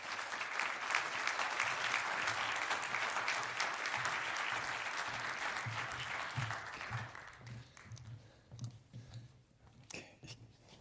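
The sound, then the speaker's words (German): A crowd applauds to welcome two speakers, dense clapping for about seven seconds before thinning out into scattered claps and fading, with a faint low hum underneath. “Bitte begrüßt beide mit einem großartigen Applaus.”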